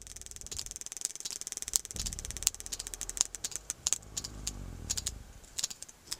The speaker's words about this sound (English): That clicking is coming from a sperm whale as it removes black cod from a fishing line. It's a prized catch, and all that pilfering costs fishermen.